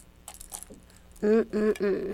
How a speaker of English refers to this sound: You have some keys? Can you shake them? Shaky, shaky, shaky, shaky, shaky, shaky, shaky.